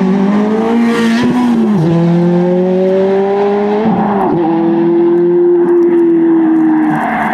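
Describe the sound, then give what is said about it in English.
A red Ferrari F430 engine revs loudly, its pitch climbing steadily then dropping sharply twice as it shifts gears, sustained and alone with no talking. “It's a Ferrari F430 red.”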